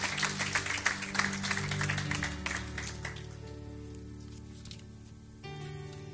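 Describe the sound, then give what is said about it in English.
An audience claps together in praise in a dense burst of applause that thins out and fades after a few seconds, with sustained musical tones holding underneath and carrying on alone. “Give me a hand, big hand clap of praise if you feel like he's blessed you more than you deserve.”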